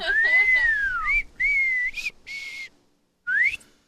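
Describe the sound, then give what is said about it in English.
A person whistles in a few short bursts: a long wavering tone that slides down, a steadier note, a breathy airy puff, then a final quick upward swoop. “Can you whistle?”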